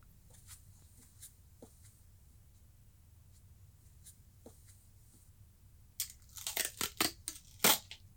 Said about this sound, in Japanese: こうやって口をガムテープで塞いで。